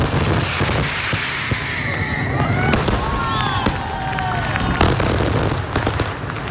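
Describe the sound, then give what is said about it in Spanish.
A fireworks display fired by the pyrotechnics firm Pirotecnia Vulcano at the 36th edition of the Casey de Loya, with repeated sharp booms and crackling bursts, some whistling rockets rising between blasts, all loud and continuous against a rumbling crowd-like background. “Éxito de la edición número 36 del Casey de Loya gracias a las innovaciones que ha planteado la pirotecnia Vulcano, encargada del disparo por segundo año consecutivo y entre las que ha destacado un atronador final que el sábado a medianoche hizo”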